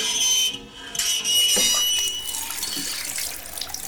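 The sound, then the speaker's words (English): A cold-water bathroom tap runs steadily, water gushing with a bright, hissy splash that dips briefly, then surges back and continues as a slightly softer, even stream. “But this tap works, I think.”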